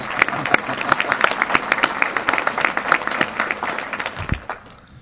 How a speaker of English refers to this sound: If you would stand and let us applaud you.